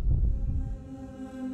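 A loud, deep heartbeat, heard in the ears, thuds in a couple of heavy low pulses, then gives way to a steady droning hum with faint tonal overtones. No one speaks.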